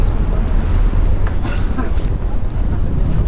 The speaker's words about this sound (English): Man, it's really windy.